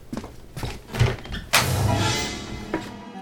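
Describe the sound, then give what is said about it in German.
A door opens: a few soft clicks and knocks from the handle, then a louder scraping swing that carries on for over a second before a final small thud. “öffnen auf die Tür.”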